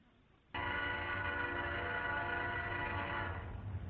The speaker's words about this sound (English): Listen to the trains go by. It gives me shivers.